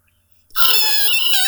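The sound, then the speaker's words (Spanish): A person vocally imitates a taxi's tire screech: after a brief silence, one loud, shrill, sustained squeal rings out for about a second, with no other sounds. “O sea, el inicio sería como que un taxi así, obviamente, chillando para darle como temática relacionada”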